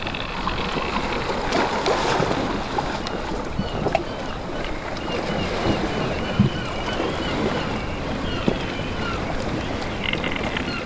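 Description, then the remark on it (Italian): A sailing ship out at sea, with a steady rush of water and wind around the hull and occasional knocks and creaks. The sound is continuous, with no voices. “Soprattutto grazie all'affinamento delle tecniche di sfruttamento dell'energia del vento, in particolare per la propulsione navale, le navi a vela.”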